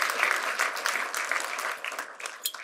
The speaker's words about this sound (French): On peut applaudir notre Dieu ce matin.